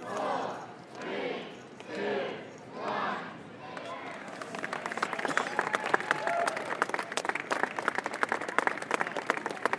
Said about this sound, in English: I would like everybody, as loud as you can, together, to count down from 10. When you get to 0, that'd be a nice time for some love and applause, and a nice time for you to get the hell off me, okay?